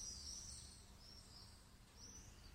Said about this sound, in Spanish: Son los pajaritos.